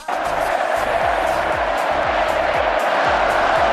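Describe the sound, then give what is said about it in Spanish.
A dense, loud crowd at the Bernabéu stadium roars and chants in unison for the captain, Nacho, with steady rhythmic low thumps pulsing beneath the sustained wall of voices. “el tercer grito del Bernabéu fue para el capitán.”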